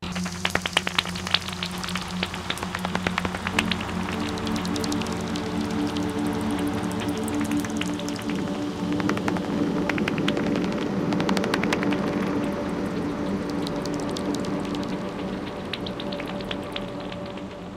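Pitch-lowered pipistrelle bat echolocation calls: dense, irregular flurries of sharp clicks and chirps, fairly loud, layered over steady low droning tones that run throughout. No one speaks.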